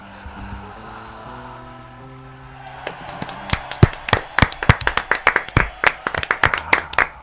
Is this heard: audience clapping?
yes